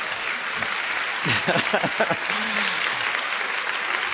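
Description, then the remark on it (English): An audience claps steadily as the speaker announces they are stopping, a dense wash of applause that holds throughout, with a brief voice or murmur rising through the middle of the clapping. “I'm a little discouraged that when I announce we're stopping, you clap so enthusiastically, but that's okay.”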